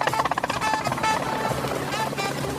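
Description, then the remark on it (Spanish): A helicopter approaches, its rotor chopping in fast rhythmic pulses, loud, blending into a dense, continuous engine roar with other busy sound layered on top. “Se acerca un helicóptero.”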